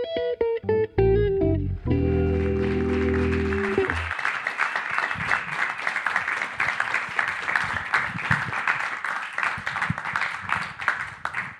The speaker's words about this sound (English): Have you you look there like you were relishing them continually clapping for ages, despite their small size.